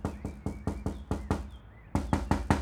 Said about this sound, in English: Etha answered the door on the third knock, fizzing with annoyance.